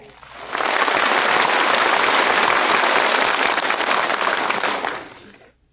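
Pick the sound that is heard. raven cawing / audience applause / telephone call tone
audience applause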